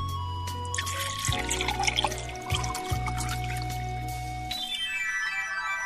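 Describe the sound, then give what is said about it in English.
Red or white wine is poured steadily from a freshly opened bottle into a glass for several seconds, a gurgling trickle whose pitch rises as the glass fills, ending with a brighter ringing tone near the finish. “Pour a glass for each other or just for yourself.”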